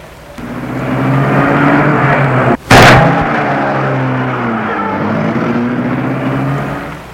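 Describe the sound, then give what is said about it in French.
A car engine hums steadily with a low, rumbling drone, briefly interrupted by a single sharp thud, then keeps running at a constant level as the car drives away into the night. “Et la voiture s'est enfoncée dans la nuit.”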